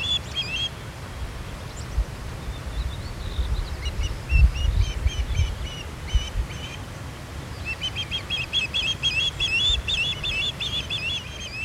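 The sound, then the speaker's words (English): Repeated high, sharp whistled chirps from an osprey come in bursts, clustering into rapid series near the end, over a steady low rumble of wind or water with no voices. “This has been WSHU's Bird Song Break, featuring the osprey.”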